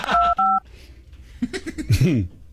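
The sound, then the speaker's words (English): Two quick telephone keypad tones beep in rapid succession, loud, as someone dials a phone, followed by a brief stretch of someone speaking. “Well, you're dialing with a vengeance now.”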